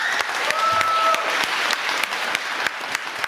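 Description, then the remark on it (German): A crowd applauds steadily, with dense overlapping hand claps and a few sharp louder claps. A brief whistle-like tone rises through the clapping near the start. “Applaus!”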